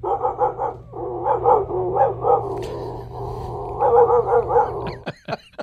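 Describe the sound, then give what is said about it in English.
Former quarterback Orlovsky imitates a dog, letting out quick bursts of loud barks and yaps in rapid clusters over a low steady hum, ending with a few sharp clicks. “Orlovsky's colleague Mina Kimes posted a video to Twitter this week that's gone viral, showcasing the former QB's ability to do a spot-on impression of a dog.”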